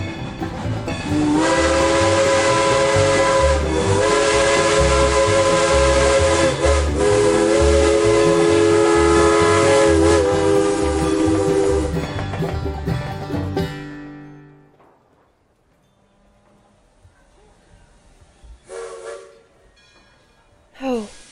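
A loud, sustained steam train whistle blares for about thirteen seconds over chugging, rhythmic rail noise, then fades away, leaving quiet with a few faint hisses and clanks.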